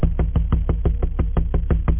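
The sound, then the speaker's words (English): A rapid, steady series of about a dozen dull knocks on a door at around 9 p.m., evenly spaced and fairly loud, with a hollow low thud to each hit and no voices. “By 9 o'clock, I was getting ready to sit down and eat when I heard a knock at the door.”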